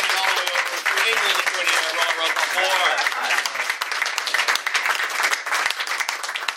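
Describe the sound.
An audience applauds steadily for several seconds, a dense, loud wash of many hands clapping at an even level, with a few voices murmuring or cheering underneath.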